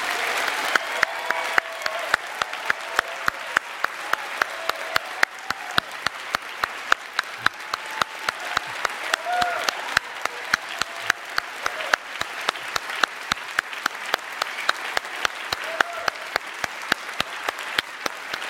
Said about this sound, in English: Now's the time to applaud.